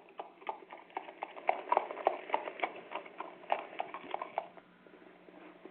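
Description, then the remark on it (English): Horse hooves clip-clop in a steady, brisk rhythm, clear, then grow softer toward the end. No voices are heard. “Yeah, I'm working with the horses.”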